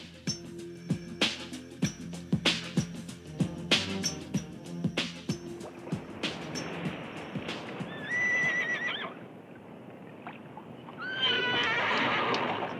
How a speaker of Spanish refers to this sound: ¡Tengan cuidado con esos caballos!